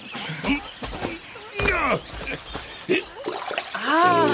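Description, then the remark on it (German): Feet splash and paddle in shallow water as people sit on the shore, a series of irregular sloshing bursts, while voices talk and exclaim over the splashing. “Setzen wir uns ans Ufer und planschen ein bisschen mit den Füßen im Wasser.”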